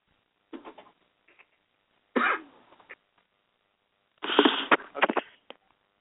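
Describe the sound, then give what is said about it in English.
A small puppy barks after the doorbell rang for a package, in three rough bursts: a short yap, then a louder bark, then a longer run of loud, harsh barking, with quiet gaps between and no talking. “Doorbell rang for a package, and little pup went a little nuts.”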